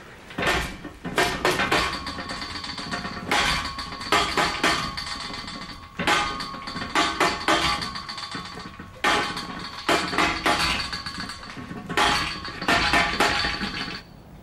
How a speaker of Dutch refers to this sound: Klopfzeichen.